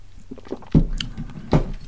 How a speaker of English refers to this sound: I'm going to pause for a moment to have a sip of coffee.